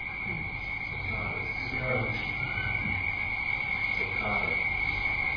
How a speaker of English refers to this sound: Pretty intense sound. What is that? Frogs and crickets?